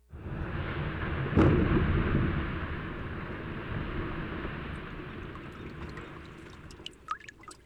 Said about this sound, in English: The ice cracks, fizzles, drips, and calves. These are the sounds of Glacier Bay National Park in Alaska's southern region, where most of the state's glaciers are concentrated.